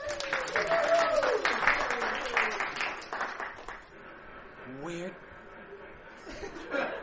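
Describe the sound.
A dense burst of audience applause mixed with laughter for a few seconds, then it cuts to a quieter stretch with a brief chuckle and faint voices.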